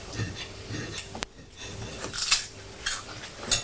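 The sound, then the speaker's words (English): Someone crunching on Quavers crisps: a handful of irregular, crackly bursts with dry, high-pitched snaps between quieter chewing, fairly soft overall and with no one talking. “All I can hear is you crunching on quavers.”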